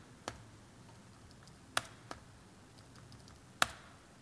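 Sparse typing of code on a computer keyboard: four isolated, sharp key clicks spread unevenly over a few seconds, two of them louder and crisper, against a faint steady background hiss with no talking.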